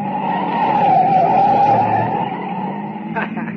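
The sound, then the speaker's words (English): A light car driven by a woman roars along at about 70 while its tires let out a sustained, loud skidding squeal through a right turn as it almost goes over, the screech easing off near the end beneath a steady engine drone. “Baby, look at her take that right turn, huh? She almost went over. That's a light car she's got.”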